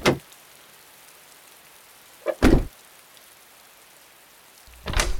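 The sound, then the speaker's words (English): A latch clicks and the door of room 237 at a run-down motel swings open with a short, rough burst of noise, followed by another shuffling thump, all over a steady, rain-like hiss in the background. “As I opened the door to room 237, light slid across the black-stained carpet, sending roaches scurrying to their home.”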